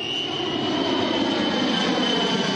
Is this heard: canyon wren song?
no